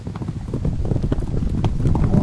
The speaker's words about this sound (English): That was a very small army. Those horses were a little bigger than mice.